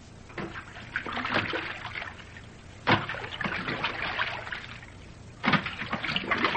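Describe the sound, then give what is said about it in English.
Water sloshes and laps steadily around a fishing boat nearing the Danish shore on a moonless night, with a continuous trickling, splashing texture and two sharper surges of splashing that stand out above the rest. No voices are heard. “As they stole through the black waters toward Nazi territory”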